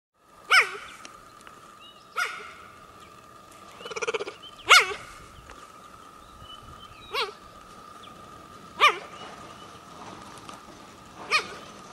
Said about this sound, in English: It sounds like a bird call. So that's a juvenile cub. It's like a teenager calling for its mom, and it just sounds like it's chirping. And they also sometimes will bark like a puppy to find mates or to locate their young or their family.